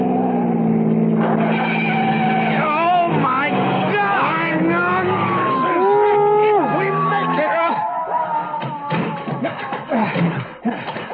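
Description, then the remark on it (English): A speeding car, driving at about 98 miles an hour, roars past another car to crowd it onto the shoulder, with rising and falling engine whine, tires squealing loudly as it skids to a stop, filling the scene. “I'm going to pass and crowd him onto the shoulder.”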